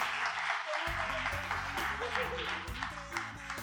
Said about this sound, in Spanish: ¡Fuerte aplauso para ellos, por favor!